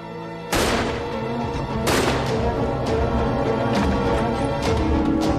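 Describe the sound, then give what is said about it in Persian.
Several loud gunshots ring out at irregular intervals, about five sharp cracks over a few seconds, each echoing into a dense, noisy background with no talking. “با اون شلیکا خواستم بگم کجایی.”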